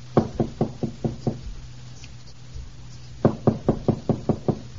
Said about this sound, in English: Gosh, I think I'll tap lightly on Teddy's door. It's possible she might be awake. Well, it won't hurt to try. Well, I'll do it very quietly.